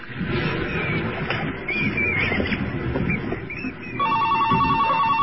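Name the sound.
old telephone bell ringing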